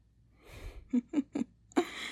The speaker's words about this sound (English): You were breathing pretty heavily there, mister.